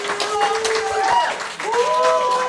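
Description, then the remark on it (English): A crowd cheers and claps loudly and steadily, with a dense wash of applause broken by sharp claps and long, rising shouts carrying over the noise for the whole stretch, as Alexi, the IWA champion from Kingston, Ontario, weighing 212 pounds, is introduced. “And the crowd is fired up for Alexi.”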